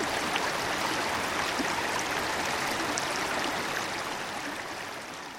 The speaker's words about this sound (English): We follow the flow down the mountain where the trickle comes together with another and another. Soon it's become a full-fledged mountain stream, home to rare speckled trout.